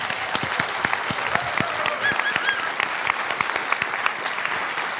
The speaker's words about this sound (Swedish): Hej och välkomna ska ni vara till det politiska spelet från Konserthusteatern i Karlskrona. En stor applåd till vår publik!